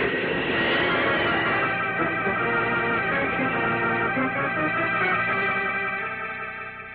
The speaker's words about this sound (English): Dr. Bloomfield and I heard a great rush of wind. Then we saw a sort of flash and blur as Superman leaped from the earth and streaked away into the sky.